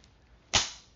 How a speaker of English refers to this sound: slap.